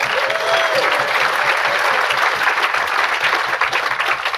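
An audience bursts into steady applause, many hands clapping in a dense, continuous patter that stays loud and even for several seconds, with a faint whistle near the start and no talking.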